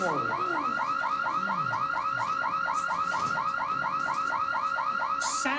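A security alarm wails continuously with a rapid, repeating warble, loud, cycling steadily for several seconds with no voices over it.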